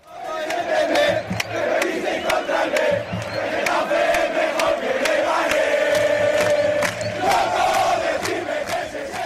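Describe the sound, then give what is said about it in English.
A large crowd of Getafe football fans at the Southern Madrid derby between Getafe and Leganés sings a loud, rhythmic chant in unison, 'Getafe is better than Leganés', voices holding steady sung notes, with sharp claps or bangs punctuating the singing at irregular intervals. “You could hear the Getafe fans in full voice there, singing Getafe is better than Leganés.”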